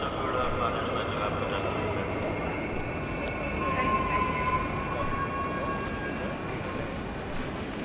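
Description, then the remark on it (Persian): A train rolls by, a steady loud rumble with thin metallic squealing tones riding on top, holding the same level for the whole stretch. “همینه، سوار این قطار باید بشی؟”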